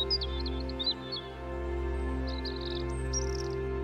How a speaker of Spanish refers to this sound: Y escuchas el canto ocasional de los pájaros.